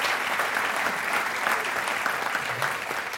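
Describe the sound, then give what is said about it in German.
A crowd applauds again for a photo, a dense, even wash of many hands clapping at once with no pauses, holding a constant loudness throughout. “Sie könnt noch mal klatschen, damit dort Fotoschmuck wart.”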